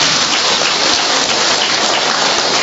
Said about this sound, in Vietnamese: Hallelujah, chào mừng anh chị em, trước một tràng pháo tay thưa anh chị em.